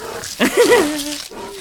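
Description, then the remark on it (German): A bear growls in one short, rough burst that wavers in pitch and then trails into a lower, drawn-out rumble before fading. “Bist du ein Bär?”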